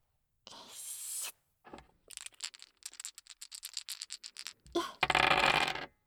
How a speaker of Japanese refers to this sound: あ、もう少し大きめですか？なら、もう一回やりますね。今度は、右からサイコロです。